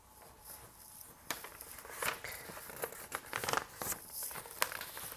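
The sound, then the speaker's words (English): Crisp paper noises: rustling and crinkling with a few sharp ripping bursts, as a sheet of paper is torn and folded in half over several seconds to make a tool for planting tiny seeds such as carrots, lettuce and onions, fairly quiet with no talking. “But I'm going to show you with this piece of paper.”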